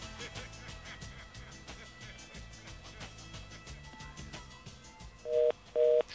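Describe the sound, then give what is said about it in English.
A telephone number is dialed and a secret code entered, but the call fails to go through: over a dense, cluttered background, two loud, steady tone bursts sound near the end, like a busy signal. “And those of you familiar with the show should recognize that phone number by now. And we're going to enter our secret code.”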